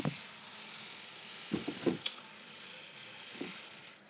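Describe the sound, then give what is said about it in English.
During heavy rain, a steady, muffled rush of rainwater from the roof pours down a drainpipe inside a house wall, hissing continuously at a low level, with a few faint knocks and gurgles, and no voices. “That's the water coming down from the roof.”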